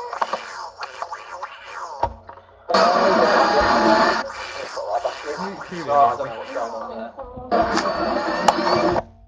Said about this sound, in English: I hear the sound of a vacuum cleaner.